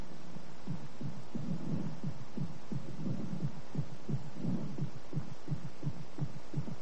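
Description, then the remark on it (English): An amplified heartbeat thuds in a steady, quick rhythm, each deep muffled beat booming like far-off drums over a low background hum, with no voices. “Heartbeats can be made to sound like far-off drums in Africa.”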